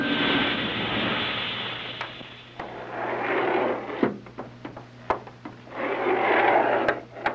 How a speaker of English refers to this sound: Hey, wait a minute. Sounds like another elevator coming.